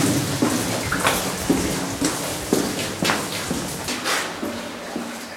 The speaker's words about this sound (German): Also so, die ersten 20 Meter sind auf dem Bereich, wo es ganz stark von der Decke tropft, wenn es geregnet hat. Und nach drei, vier Tagen hört es auf zu tropfen.